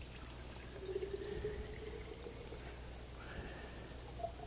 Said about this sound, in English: I don't want it to settle down anymore, so I'm going to pour the rest of it back in this jar.